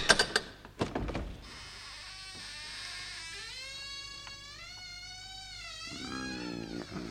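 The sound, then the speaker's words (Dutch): A few sharp clunks, then a long, wavering creak as the door of grandmother's cottage in Little Red Riding Hood swings slowly open after the string is pulled, with no voices. “Trek maar aan het touwtje, dan gaat de deur vanzelf open.”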